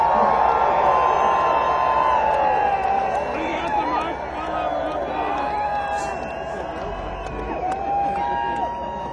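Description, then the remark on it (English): A large crowd yells and cheers continuously, a loud dense roar of many voices with rising shouts and whoops layered over a steady babble throughout. “Come on, you gotta scream.”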